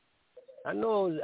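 Birds cooing in the background: a soft low hum, then a louder, throaty, wavering coo that swells and holds for about a second, muffled and narrow as if coming through a phone line.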